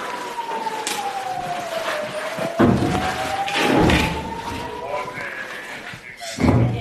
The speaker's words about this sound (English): We hear Israel's air defences intercept the barrage overhead.